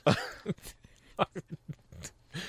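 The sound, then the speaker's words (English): A run of short, sharp nasal sniffs and snorts in quick, uneven succession, some breathy and hissing, others with a grunting voiced edge, fairly loud against quiet gaps. “And I just happened to sniff.”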